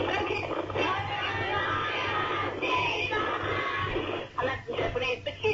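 A crowd of young schoolchildren at Mayfield School in Carina, near Carindale Shopping Centre, shouting together in a loud, sustained roar of high voices, with a few separate yells and cheers near the end.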